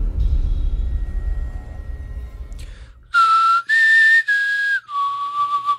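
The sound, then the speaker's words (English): A person whistles a short four-note tune, the Hunger Games whistle, the clear tones rising, holding, then dropping, after a few seconds of low background rumble. No one speaks. “That was supposed to be the Hunger Games whistle.”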